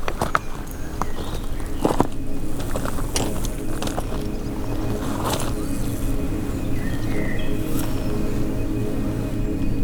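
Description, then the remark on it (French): Steady outdoor seaside ambience, slightly sheltered from the wind, a constant low wash of sound with faint, sparse bird chirps and insect buzzing high above, plus a few soft clicks and taps. “Au bord de la mer, des oiseaux, des insectes.”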